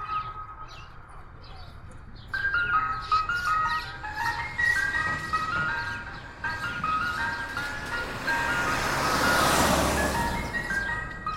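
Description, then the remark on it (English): An ice cream truck jingle plays its tinkling, repeating melody over low outdoor road rumble, starting a couple of seconds in and swelling louder near the end as the truck comes by. “And the reason I mention this is because my cousin, who was about 4 years younger than me, when my dad came home from mowing lawns or loading trucks, whatever he was doing that day, ice cream truck came by.”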